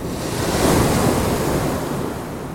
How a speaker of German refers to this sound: Die tausend Wellen und Wogen, die mit einem Schlage Himmel ansteigen und ihre Häupter krausen, dann übereinander stürzen und niedersinken. Im Takt des vielstimmigsten Akkords.